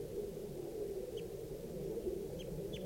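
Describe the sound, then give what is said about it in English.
An adult male gray bird in a tree gives three short, high, faint calls, spaced unevenly, over a steady low hum of background noise. No one speaks. “And they were in the same tree as the adult female, and they're calling here. That's the adult male, that's the gray, male gray.”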